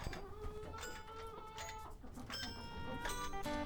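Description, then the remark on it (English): Several chickens, being given leftover pancakes, cluck and squawk in overlapping bursts, a busy, continuous chorus of hen calls with a few sharper, higher cries mixed in. “This is the poem Cake by Todd Colby, as recited by our chickens. Listen.”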